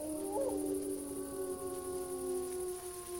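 wolves howling

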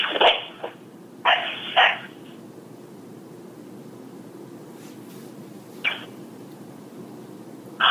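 dog barking twice

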